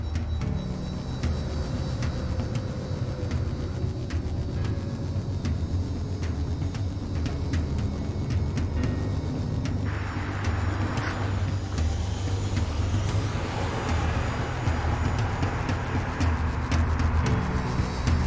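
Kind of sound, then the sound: vehicle, car approaching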